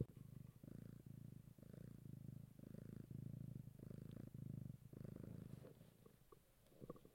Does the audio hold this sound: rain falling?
no